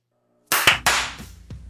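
A few sharp hand claps, made to sync audio, land in quick succession, slightly out of step with one another, followed by a fainter, later clap, with no talking.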